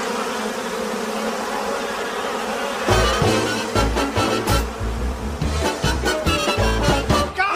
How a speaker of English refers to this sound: Not even the announcer's box is safe from the terrorizing insects. We've been invaded by a swarm of killer bees. My microphone is no microphone at all. It's bees. Am I being badly stung? Yes, and it hurts.